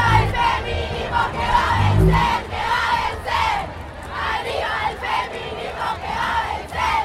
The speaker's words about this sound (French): Manifestation pro-avortement devant le Congrès argentin la semaine dernière, au milieu de la foule, un terrain improvisé de football dit féministe.